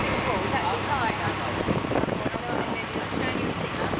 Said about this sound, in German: Auf einem Motorboot werden wir zu einem Schiff gefahren, das in der Bucht vor Anker liegt.